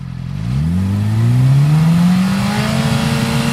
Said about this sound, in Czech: Mobilní hlukoměr se při kontrole připojí k vozidlu a změří jeho hlučnost při různých otáčkách motoru.